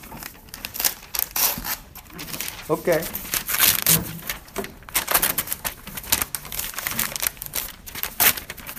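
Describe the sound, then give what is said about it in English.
A sheet of paper rustles and crinkles in dense crackly bursts that continue almost throughout, with a brief spoken word in the middle. “Can I get a page? Yeah. A sheet of paper?”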